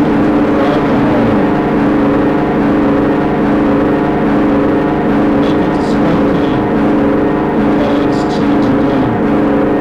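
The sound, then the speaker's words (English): A steady, droning bus engine hum with strong low harmonic bands, heard while riding inside the bus; the rumble stays constant and loud with faint rattles and murmurs over it. “Back on the bus.”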